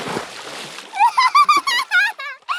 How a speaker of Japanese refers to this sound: 川に引っ張り込んでやったぞー！これで一緒にずぶ濡れだな！